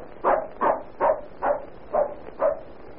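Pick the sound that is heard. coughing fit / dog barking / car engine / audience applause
dog barking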